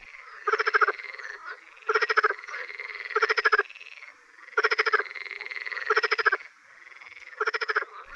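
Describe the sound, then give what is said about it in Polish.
A chorus of marsh frogs gives loud, rapid laughing croaks in six pulsed bursts, each about half a second long and spaced roughly a second apart. Quieter calls from other frogs carry on between them. “Odzywa się churalnie bardzo głośnym, modulowanym, śmiejącym się rechotem.”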